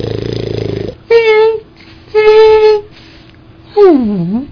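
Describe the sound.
A person's voice imitates a humpback whale call: a low buzzy drone, two sustained moaning tones, then a loud wavering swoop that slides downward in pitch.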